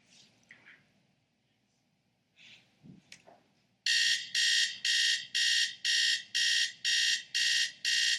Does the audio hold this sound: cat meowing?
no